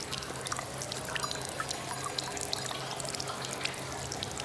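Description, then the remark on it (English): Urine splashes steadily into a champagne glass set at the feet of a man urinating at a urinal in a gents' toilet, a continuous stream of liquid with small bright drips and spatters throughout, and no voices. “As Gangster urinates, some of the urine splashes into his champagne glass.”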